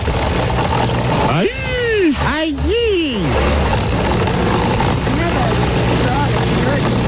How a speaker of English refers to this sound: Okay, chop. Hey, there's a good blender. It's not moving. That's the professional model, I can tell myself. It's jammed up. Hold on, there it goes. There it goes.